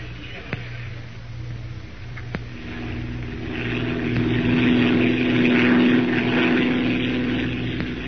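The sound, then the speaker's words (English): The engine of a hired propeller plane with an Arabian pilot, flying down to the jungle, drones steadily throughout, its humming tone swelling a little louder and fuller about halfway through, with a rushing wind-like noise over the top and no voices. “We'll have to pack and buy some clothes suitable for the jungle and, most important of all, hire a plane to get us down there.”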